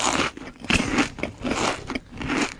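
Loud crunchy chewing, with rhythmic bites landing roughly twice a second, each a crackly burst of crunching food, and no voices present.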